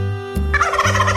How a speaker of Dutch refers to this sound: Dit is ook een hele moeilijke. Zal ik het verklappen? Ja. Het is een kalkoen. Levert die op een boerderij? Zeker weten, zeker weten. En die klinken zo.